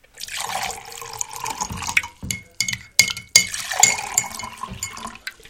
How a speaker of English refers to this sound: You ready for some coffee, honey? Absolutely. I'll pour.